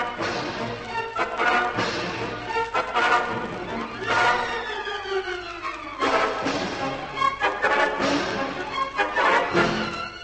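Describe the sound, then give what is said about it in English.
An immense pig squeals loudly and harshly in shrill, wavering cries, amid a rough, continuous scuffling commotion as it charges at a man and knocks him to the ground, with the noise sustained throughout. “With a squeal of hatred, the immense pig flings himself at Algy and knocks him to the ground.”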